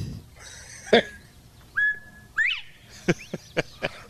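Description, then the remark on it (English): A sequence of whistled notes played as bumper music: a sharp burst, a steady held tone, a rising slide, then several quick, bright chirps in a loose rhythm, fairly loud with no talking. “you're one of only two people that come with their own bumper music, so hang on just a second.”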